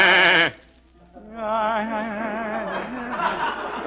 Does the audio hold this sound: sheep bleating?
yes